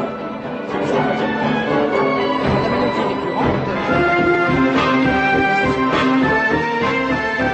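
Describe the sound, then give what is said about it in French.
A loud, full orchestral passage from the score of the shark film Jaws (Les Dents de la Mer) plays its recurring melody, with sustained low strings and layered brass harmonies swelling steadily throughout, and no voices. “Alors dans la bande originale, il y a une mélodie qui est récurrente.”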